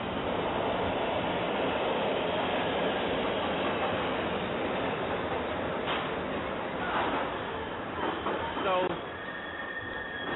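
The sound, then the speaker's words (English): A subway train rumbles along steadily with a loud, continuous roar, then brief metallic wheel squeals ring out near the end as the noise eases slightly; indistinct voices may sit beneath the din. “And then, of course, as you well know, if it gets to ill, it gets onto the subway.”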